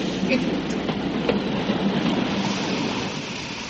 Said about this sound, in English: I only hope you will acknowledge that I was right in saying that the train would stop.